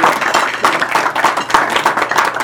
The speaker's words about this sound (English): You've got to give a little more of a clap offering than that.